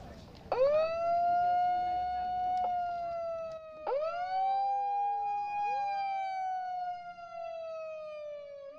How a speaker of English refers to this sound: … and I will sound the alarm, like the air raid alarm that sounded. Imagine a bomb falling.